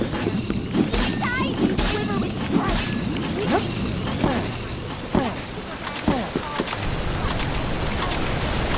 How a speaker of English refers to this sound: Again, a water spell.